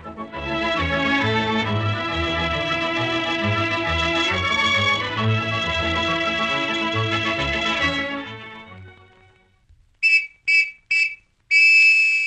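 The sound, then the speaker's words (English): Orchestral music plays and fades out, then a shrill whistle sounds a quick burst of short, sharp blasts followed by a longer sustained blast, urging haste. “Did you get that hurry-up signal, fellas and girls?”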